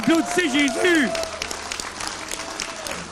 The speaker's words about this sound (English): Someone give Jesus a clap.